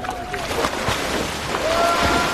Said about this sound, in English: The sound of some of the first people to dive into the River Seine in Paris on Saturday morning.